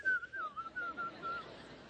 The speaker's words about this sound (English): You know when you get nervous, you whistle?